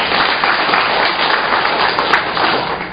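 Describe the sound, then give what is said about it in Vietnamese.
A crowd breaks into sustained applause, dense overlapping clapping that stays loud and steady throughout with no one speaking over it. “Một tràng pháo tay thưa anh chị.”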